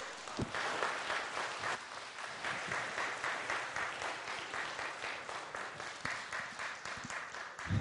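An audience applauds steadily for about eight seconds, many hands clapping in a dense, even patter that holds its loudness throughout with no voices.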